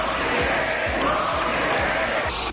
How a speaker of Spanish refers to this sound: Los gritos de la bancada popular han obligado a la presidenta de la Cámara a suspender por momentos la sesión.